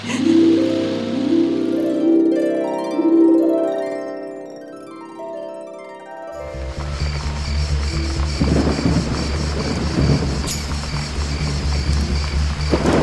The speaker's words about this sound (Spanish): Mucho está lloviendo